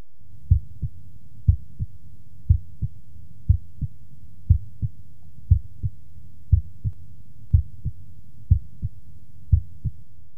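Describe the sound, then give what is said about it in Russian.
A steady heartbeat heard through a stethoscope during auscultation: low, muffled paired thuds repeating about once a second for roughly ten beats, clear, with the first heart sound fainter than the second, and no talking. “Обратите внимание, что первый тон был слышен хуже второго.”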